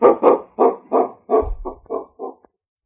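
A dog barks in a quick, steady run of about eight sharp barks, loud, with no voices alongside.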